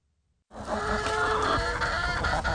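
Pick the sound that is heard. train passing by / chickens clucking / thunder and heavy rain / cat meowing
chickens clucking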